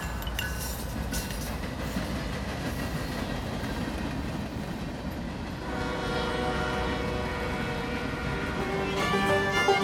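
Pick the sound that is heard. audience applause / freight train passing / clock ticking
freight train passing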